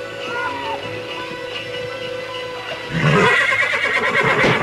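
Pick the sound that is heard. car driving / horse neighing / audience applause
horse neighing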